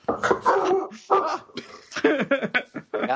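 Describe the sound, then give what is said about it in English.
A person imitates a dog barking, voicing a dog called Ace the Wonder Dog, with a quick run of loud, rough yaps and woofs in uneven bursts, broken by short pauses. “Yeah, why does she have a dog in this scenario?”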